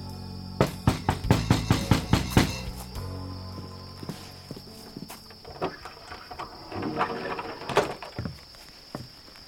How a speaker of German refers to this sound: Dort klopfen nämlich Isabel und Sarah an die Hütte von Frau Meisenpretzel.